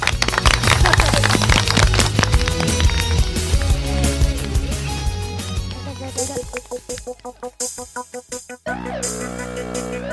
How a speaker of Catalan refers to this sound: Vale, doncs moltes gràcies. Gràcies per tot el que heu compartit. Un fort aplaudiment.